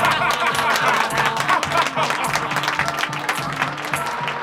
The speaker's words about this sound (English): The dance was over. The wild, drunken guests applauded loudly.